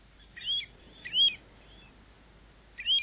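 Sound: pacific golden plover calls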